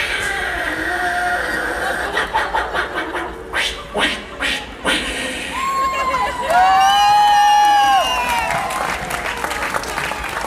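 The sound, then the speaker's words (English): A crowd claps and cheers as voices let out long, rising Mexican grito shouts and whoops, one sustained wavering cry ringing over the noisy applause. “have you been practicing your gritos? You think you got it down? Are you ready? You want to show everybody how it's done?”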